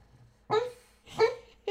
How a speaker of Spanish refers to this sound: Y si por si acaso escuchas un sonidito, es mi perro que está soñando aquí justamente. No sé si escuchan.